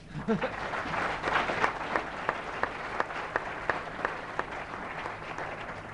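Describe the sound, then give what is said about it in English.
An audience at the LSE applauds steadily for several seconds, celebrating an achievement of the Centre and its staff: a dense wash of clapping with some sharper individual claps standing out in a loose rhythm, holding at a fairly even volume throughout. “So why don't you give them all a bit of a clap?”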